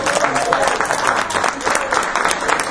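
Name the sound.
audience clapping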